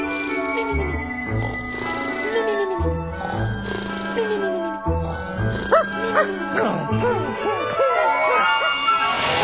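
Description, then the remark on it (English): A man imitates a dog at night, letting out a rapid string of loud barks and yips that rise and fall in pitch, with whiny squeals toward the end. “This guy barking like a dog all night.”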